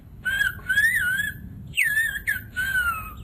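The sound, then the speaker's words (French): Clear, melodic human whistling of a Greek language conversation on an island in Greece, in sliding, speech-like phrases with rising and falling pitch, broken by brief pauses, fairly loud over a low background rumble. “On comprend presque le grec quand on a le Ephaïsto et qu'on entend le sifflement des Ephaïsto.”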